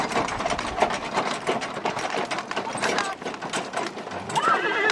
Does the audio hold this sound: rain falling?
no